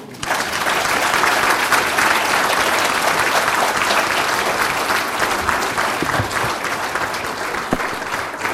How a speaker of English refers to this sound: Thanks for that applause